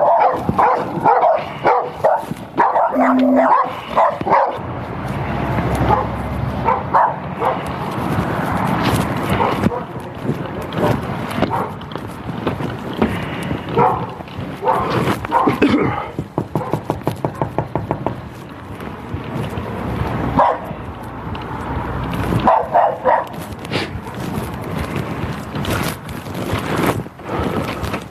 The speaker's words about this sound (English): These are not your dogs, are they? Okay. Yeah, I know, they're pretty aggressive.